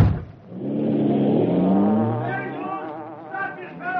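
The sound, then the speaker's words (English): A car engine starts up and drives off: a loud, steady droning hum that swells and climbs slightly in pitch, with thin whining overtones as it pulls away. “You go ahead and start the car.”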